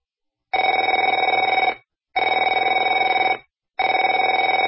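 A telephone rings in three loud bursts with short gaps between them, each a bright, rapidly trilling electronic bell tone. No voices are heard.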